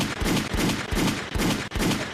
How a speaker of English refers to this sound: Gunshots, please.